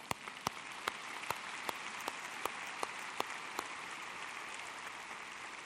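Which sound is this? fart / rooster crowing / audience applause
audience applause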